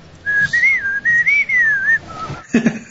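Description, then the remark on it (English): A person whistles a bouncy, marching melody in short repeated phrases, clear, followed by a brief low thump at the end. “Or like the whistle that they kind of do when they're marching along, you know?”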